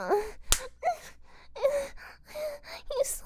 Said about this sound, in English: He slapped me.